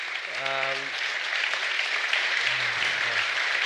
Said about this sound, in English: Thank you. Thank you. We give a big round of applause to our guests